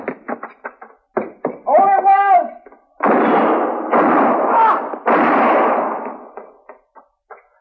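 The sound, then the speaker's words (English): A rapid exchange of gunshots in a shootout in which two men shoot a third: sharp bangs crack out in quick succession, broken by a brief shout, then heavier roaring blasts before a few more scattered shots trail off. “I don't know which one of you fired first, but either both would have done it.”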